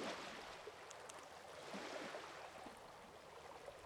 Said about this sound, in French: Avec le ciel qui éclaire les timides vagues de cette mer calme, tu es comme hors du temps.